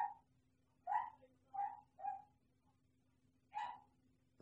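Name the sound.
dog barking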